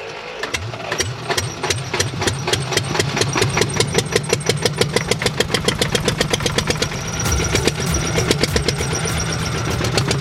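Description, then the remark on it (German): A single-cylinder four-stroke diesel engine is started with a key after preheating; it cranks and catches, then settles into a loud, steady chug of evenly spaced thumps. No one speaks. “wir drehen jetzt mal den Motor an”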